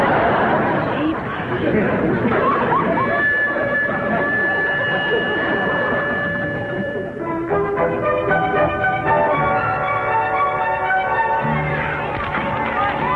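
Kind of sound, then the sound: crowd, loud crowd chatter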